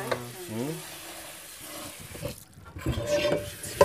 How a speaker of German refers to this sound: Also die Linsen waschen wir jetzt auch noch mal ein bisschen